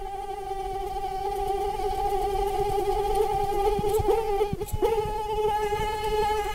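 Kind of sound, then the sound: insect, mosquito buzzing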